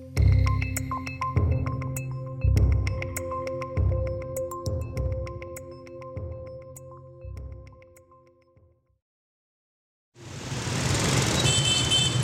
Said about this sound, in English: Hanoi is an extremely loud city. A tide of motorbikes and SUVs flood the streets every day. Their ever-blowing horns competing with pneumatic drills, babbling markets, and squawking chickens for attention.